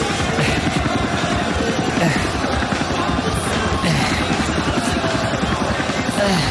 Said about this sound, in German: Holy shit! Ein fucking Helikopter!